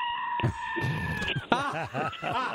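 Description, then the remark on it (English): Goats scream in a rapid run of shrill, wavering bleats, several overlapping cries that rise and fall in pitch, loud, after a brief steady tone at the start. “Even the goats are screaming.”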